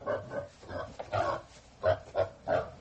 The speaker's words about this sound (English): Oh, this is quite a big pig. He looks very stubborn.